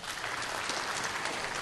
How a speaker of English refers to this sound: I don't think everyone applauded.